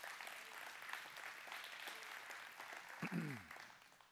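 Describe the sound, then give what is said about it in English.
A crowd claps steadily for several seconds to applaud the worship music, a dense, even patter, with a brief voice rising over the applause near the end as it begins to fade. “Will you give them a big clap, will you?”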